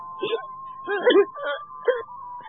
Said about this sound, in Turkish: Lütfen sakin ol. Lütfen ağlama.